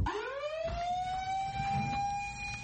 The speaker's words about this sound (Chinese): 当警报响的时候，跳伞灭火员有3分钟来穿好衣服，穿上所有装备很复杂，所以这些人总是成队工作。